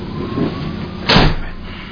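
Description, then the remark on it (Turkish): A door slides open in one short, rushing burst partway through, louder than the steady low rumble of background noise around it. “Orayı da aç, o kapıyı.”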